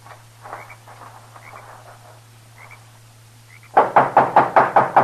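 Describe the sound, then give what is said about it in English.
Soft chirping and a low steady hum give way to a rapid, evenly spaced run of about eight loud knocks on the door of a small adobe hut, each sharp and hollow. “And there he knocked, and then disappeared inside.”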